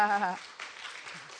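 An audience, standing, breaks into steady applause to welcome the pastor right after a brief spoken word, the clapping forming a dense, even wash of many hands at moderate volume.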